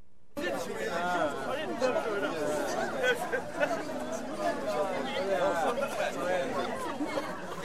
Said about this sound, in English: It's 11:45 on a Sunday night. An elaborately dressed crowd of 250 Moroccans is gathered outside a wedding hall in what looks like a strip mall.